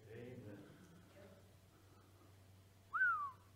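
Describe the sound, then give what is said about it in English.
A person whistles after making a good point: a short, bright whistle rises sharply then glides downward, loud, following a brief stretch of speech and a quiet pause. “Sorry, I just like to whistle after good points.”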